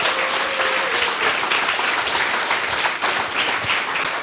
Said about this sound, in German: Dankeschön. Großen Applaus.